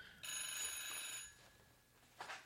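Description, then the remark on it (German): The bell of an old-fashioned analog FETAP telephone rings loudly for about a second with a bright metallic jangle, then fades, followed by a brief softer burst of ringing near the end. “jetzt klingelt hier mein Telefon. Warum klingelt hier? Das ist ein schönes Klingeln.”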